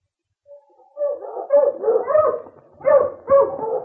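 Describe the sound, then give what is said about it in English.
A team of sled dogs barks and yelps in quick, overlapping bursts, loud, with whiny yips mixed in between the louder barks, as the team pulls a sled along a snowy trail; no one speaks. “A short time later, King was breaking a trail for the team of dogs, while Sergeant Preston jogged alongside of the sled on snowshoes.”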